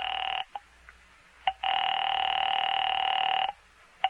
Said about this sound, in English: I made another call there in the phone booth.